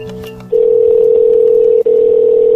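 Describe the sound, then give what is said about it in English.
A loud, steady telephone ringback tone drones through the line in two long bursts with a brief break between, preceded by some faint electronic tones, as an outgoing call rings unanswered. “He didn't answer.”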